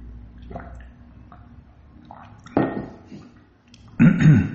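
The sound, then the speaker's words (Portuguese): Sounds of someone drinking water: quiet handling noises, then two louder gulping, liquid-moving bursts, with no talking. “Vou até tomar água.”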